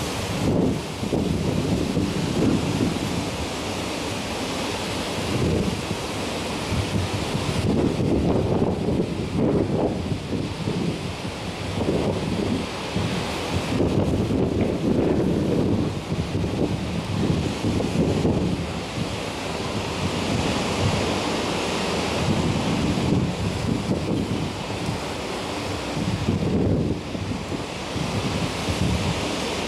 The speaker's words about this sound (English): I'm just going to play you a clip from YouTube of just the wind coming in on Galilee